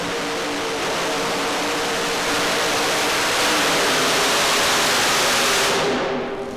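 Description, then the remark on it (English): A tractor with three huge truck engines on the front roars in a loud, dense, unbroken blast with a steady low droning hum beneath. The roar swells slightly over several seconds, then tapers off at the end. No talking. “And here's another tractor. It's got three huge engines on the front, like out of a truck.”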